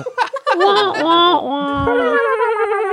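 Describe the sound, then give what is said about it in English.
A person imitates a video game dog's snickering laugh, the dog laughing at the player, starting with short breathy puffs and rising into a sustained, wavering, nasal giggle, loud. “The dog, when he laughs at you in Duck Hunt.”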